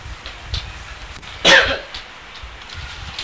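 coughing

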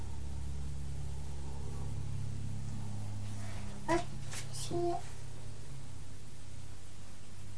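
aeroplane flying overhead

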